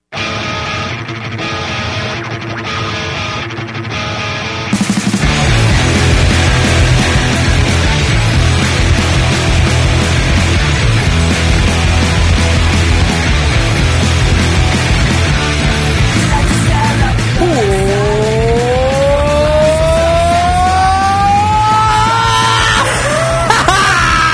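A heavy metal song, opening with a thin, muffled intro before crashing into a loud, dense wall of distorted guitars and drums with harsh, screamed vocals and sliding, bending guitar lines near the end.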